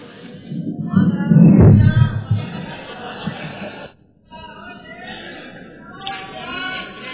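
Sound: audience applause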